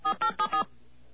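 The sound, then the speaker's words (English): Four quick touch-tone beeps from a phone keypad dialing the MCI Wow It's Hot Hotline, evenly spaced and fairly loud, each a bright dual-pitched tone, followed by a short stretch of quiet line hum. “So let's call that number again.”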